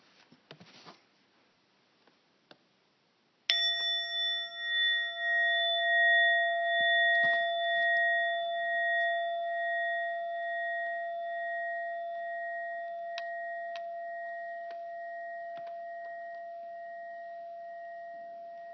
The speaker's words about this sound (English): After the time of silence, I'll ring the bell very gently and bring you back.